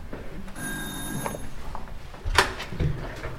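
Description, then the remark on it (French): A doorbell rings once with a bright, sustained electric chime lasting about a second at an apartment door on the fourth floor of a building on rue Quincampoix, followed by a sharp click and a soft thump as if from the door. “Ça y est, on arrive au 4e étage. Sonnerie. On va voir si les gens sont là.”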